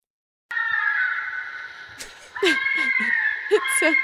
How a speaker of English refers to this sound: Also, fishers have these very spooky screams that sound, well, I'm just going to play a brief clip of this for you and see what you think.